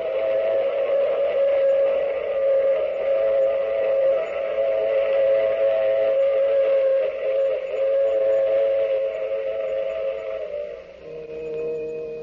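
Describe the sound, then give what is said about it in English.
A loud, sustained train whistle blows for about eleven seconds over the rumble of a moving train, then cuts off, leaving the rolling clatter of the cars. “I take this same train every week at this same time.”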